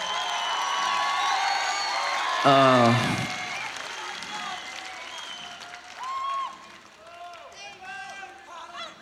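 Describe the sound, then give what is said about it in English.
An audience claps steadily in a dense, crackling wash of applause, with a loud cheer or shout rising briefly partway through and scattered voices calling out as the clapping thins toward the end. “Big round of applause.”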